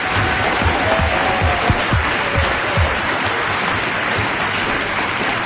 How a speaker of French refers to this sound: que vous pouvez applaudir quand même, malgré tout. Merci.